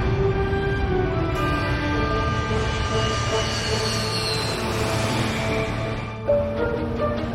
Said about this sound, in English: Molly stares out of the window as the plane goes down the runway and takes off